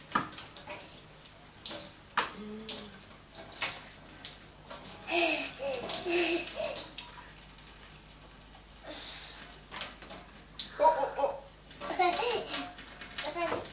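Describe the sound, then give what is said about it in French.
Water runs from a tap in uneven, splashy bursts throughout, while a small child babbles and squeals and an adult talks now and then. “Je me demandais ce que tu allais faire avec le robinet.”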